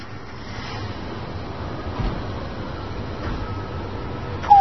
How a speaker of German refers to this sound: Ist das kalt und windig hier? Ja, liebe Hörerinnen und Hörer, heute stehen wir an einem wirklich kalten Platz. Seien Sie froh, dass Sie zu Hause vor Ihrem Radio sitzen. Wir sind hier in einer Wohnanlage in Rostock.